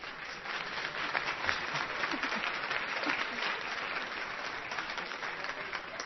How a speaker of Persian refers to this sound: دوباره خودتون رو تشویق نکنید.